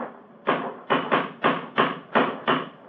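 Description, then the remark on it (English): A cane strikes a stone bridge parapet about seven times in a fairly steady rhythm, each blow a sharp, hard knock, fairly loud, with no voices. “It's a hard knock.”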